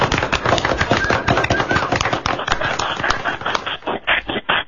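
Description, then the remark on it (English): A crowd applauds in a dense, steady roar of clapping that stays loud throughout, thinning slightly near the end into more distinct, separate claps. “They're clapping from everywhere, buddy.”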